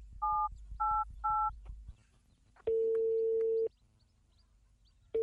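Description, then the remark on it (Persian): Three quick two-tone keypad beeps as a phone number is dialed to call father, followed by a long steady ringing tone and the start of another, over a faint low background hum. “راستی باش با پدر زنگ بزنم که دیده باشه یا نه.”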